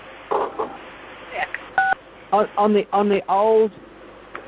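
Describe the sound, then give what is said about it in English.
A single short phone keypad beep, a steady two-note dial tone, as the number six is pressed on a cell phone keypad during a phone call, sounding clearly once amid bits of spoken conversation on a slightly muffled line. “Hit number six on your keypad.”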